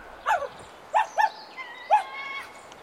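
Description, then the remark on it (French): A condor cries as it carries off the dog Milou, in a series of harsh, mid-pitched squawks, about four short bursts, with a thin, wavering whistle drawn out between them. No one speaks. “Oh, un condor.”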